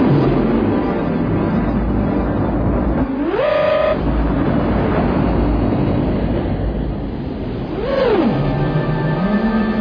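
A heavy truck engine rumbles steadily, its pitch climbing sharply once as it revs and later sweeping down again, like a big vehicle shifting gears while driving. No voices.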